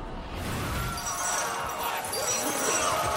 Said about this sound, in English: Something smashes through a stained glass window, sending glass flying everywhere.